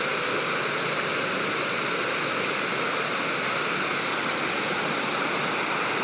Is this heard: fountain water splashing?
yes